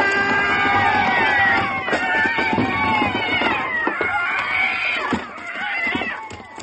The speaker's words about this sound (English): Did you ever see so many cats in the air at one time? There's only one cat I'm looking for.